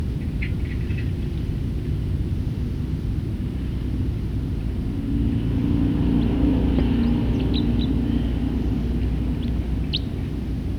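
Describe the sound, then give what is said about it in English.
A bird sings in short, high chirps and trills, a few scattered phrases rising over a steady, loud low rumble of traffic or engine noise. “Start recording the same bird.”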